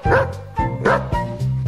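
A dog barks three times in quick, even succession, each bark loud with a slightly yelping, high-pitched edge, and no voices alongside.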